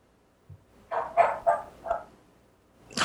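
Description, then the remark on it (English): A household pet dog barks four times in quick succession, sharp yips spaced about a third of a second apart, with a brief thump before and a noisy burst at the end. “I hear a dog. Yeah, that's mine.”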